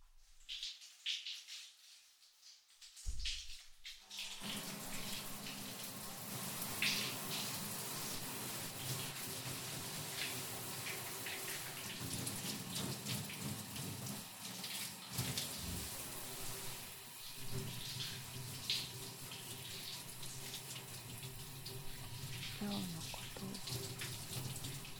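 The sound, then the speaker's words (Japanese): After a few seconds of near silence, a shower starts and runs steadily: a continuous hiss of spraying water that holds at an even level through to the end. “もう一回シャワーだ。”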